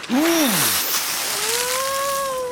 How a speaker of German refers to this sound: Kaum hatten sie die Insel hinter sich, setzte auch schon ein heftiger Sturm ein. Die Wellen wurden immer höher